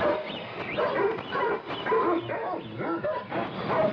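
A pack of farm dogs at their kennels barks and yips at once in a dense, overlapping chorus, fairly loud, with some whining mixed in and no pauses.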